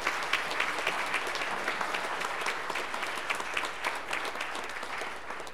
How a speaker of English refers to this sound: We were blessed this evening to have a whole host of musicians. Can we just acknowledge them and thank them again with our applause?